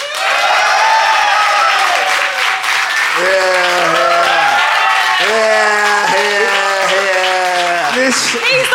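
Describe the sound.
An audience claps loudly and steadily for the whole stretch, a dense continuous wash of applause, with voices calling and whooping over it partway through.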